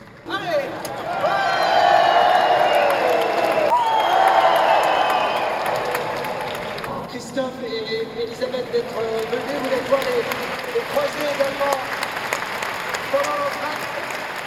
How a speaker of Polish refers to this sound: Te brawa zawstydzają.